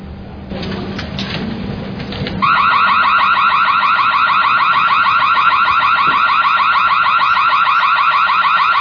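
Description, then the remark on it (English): After a couple of seconds of muffled background noise, a loud electronic alarm for a drill bursts on, a shrill rapidly pulsing high-pitched tone that continues steadily to the end. “Just a drill. Just a... Do not panic, okay?”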